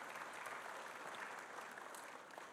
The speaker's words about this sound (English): You can clap now. You can clap.